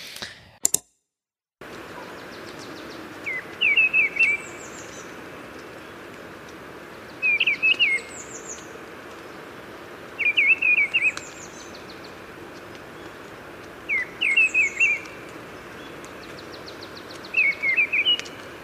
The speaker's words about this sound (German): Man könnte das also so zusammenfassen, dass aufgrund der geringeren Tonhöhenwechsel und dem stärkeren Hang zum Singen von ähnlichen Motiven hintereinander die Misteldrossel eine gestresst singende, einfallslose Amsel ist.